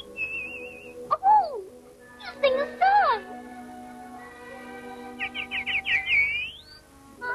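Birds chirp and whistle in several bright bursts: sliding tweets, a quick warbling trill, then a rising call near the end, clear over a faint low hum.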